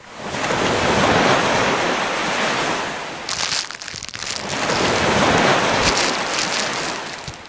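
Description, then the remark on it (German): Ocean waves roll in and break on the shore in two long, loud surges, each building to a broad wash of surf before receding, with a crisp hiss as the second wave arrives. “Klar, ganz offensichtlich. Meeresrauschen.”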